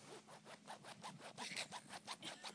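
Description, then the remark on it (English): A clothing zipper is zipped back and forth repeatedly, a quick run of rhythmic raspy strokes, fairly soft, with no one speaking. “You got a zipper.”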